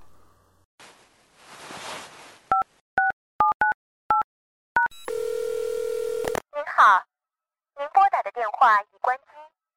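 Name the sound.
phone keypad dialing tones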